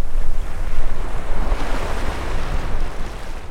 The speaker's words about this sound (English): Here and Now's Peter O'Dowd takes us to the Pacific side of Costa Rica. In a town called Punta Morales, the wind howls across the shoreline.